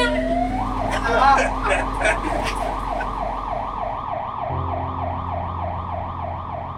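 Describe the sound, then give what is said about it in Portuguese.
A group of people imitate a siren with their voices: a rapid, steady wailing rises and falls over and over, loud, starting after a brief burst of voices and continuing to the end over a low background rumble. “Agora, vamos ter que fazer o grito de guerra. Sirene! Sirene! Sirene. Carregou a sirene, bora!”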